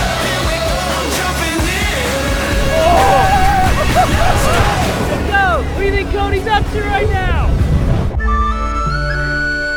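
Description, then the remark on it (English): A speedboat engine roars steadily over rushing water while several people talk and shout; near the end the scene cuts abruptly to steady electronic tones. “we'll jump in the boat, we'll sit down, we'll go shoot some rocks”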